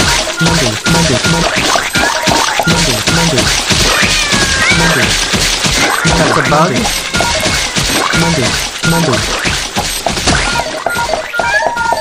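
A video game cat meows over and over, loud and busy, its cries overlapping with thumps and crashing game effects for the whole stretch.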